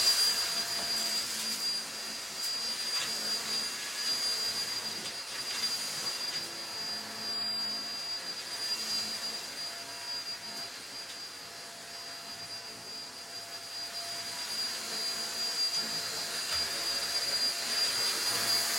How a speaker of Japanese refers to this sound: 髪の毛がちょっと舞ってるから掃除機で吸い込もうこのコードレスタイプの掃除機がめちゃくちゃ便利で、やっぱ紐で引っ張ってくるとさ大変だったりするからさ、ほんと楽だなって思う。